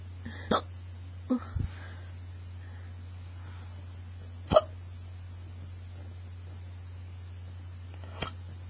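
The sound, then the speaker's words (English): A few soft hiccups, about five short sharp catches spaced irregularly across the stretch, fairly quiet over a steady low background hum, with no talking. “You'll have more hiccups to choose from.”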